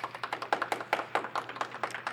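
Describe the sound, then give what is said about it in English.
Audience clapping to vote for "FBI agent" as an entry in the internet history books: a steady run of sharp, crisp claps at a quick, fairly even rhythm, roughly fifteen in two seconds, moderately loud with no voices. “If we think FBI agent should make its way into the internet history books, please clap.”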